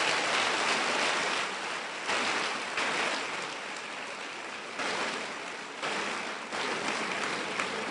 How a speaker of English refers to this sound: And I'm seeing all these heads. You need to clap for yourself for loving God.